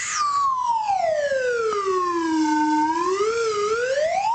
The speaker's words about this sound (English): But what I can offer you is the weekend weather slide whistle.